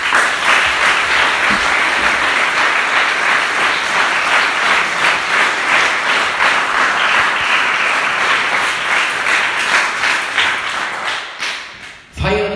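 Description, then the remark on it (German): Sustained applause from a sizable German-speaking audience for the people who prepared the event, dense and steady for about twelve seconds before tapering off abruptly near the end. “Gebt ihr noch mal einen Applaus.”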